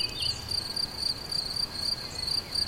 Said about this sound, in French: Le chant des grillons et au loin les sonnailles des brebis vont accueillir bientôt la nuit.